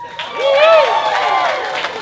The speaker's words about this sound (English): Okay, listen, this table over here, you guys didn't have to clap. Everybody knows you're holding right now.